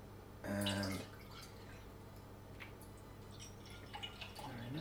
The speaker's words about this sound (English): Now, I have to put, like, 300 millilitres of water, of milk, sorry. And I'm going to use my almond milk, as I said.